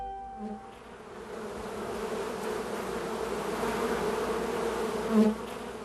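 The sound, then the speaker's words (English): A dense, steady drone of many honeybees buzzing around a hive, a continuous hum that swells slightly near the end as a bee passes close by. “The queen, some workers, and a few drones fly away.”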